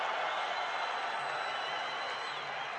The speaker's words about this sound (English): Ooh, listen to the white people cheer.